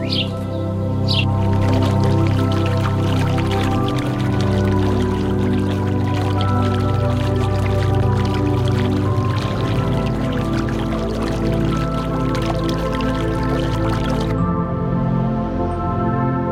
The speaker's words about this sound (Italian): Purtroppo abbiamo sentito solo l'acqua dove, insomma, si immerge la mamma ippopotamo. Nessun verso, anche perché, insomma, forse quando fa il verso veramente c'è da scappare, apre quella grande, grande bocca.